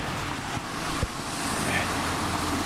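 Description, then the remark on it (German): Steady outdoor traffic rumble with a broad whooshing hiss, swelling slightly as a car rolls past on the street, with a brief knock partway through. “Und Autos. Was haben denn Autos auf der Straße zu tun?”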